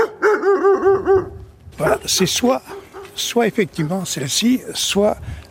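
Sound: dog barking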